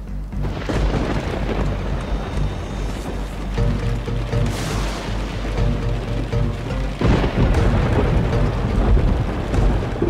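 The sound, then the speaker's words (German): A hailstorm with thunder: dense, steady pattering over deep rumbling, with heavier crashing surges swelling up every few seconds. Loud, with no voices. “Bei einem Hagelsturm zum Beispiel ereignen sich viele kleine, aber auch einzelne Großschäden.”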